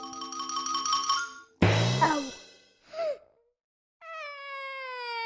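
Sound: cat meowing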